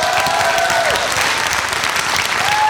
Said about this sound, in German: Applaus und die tollen Geräusche. Dankeschön.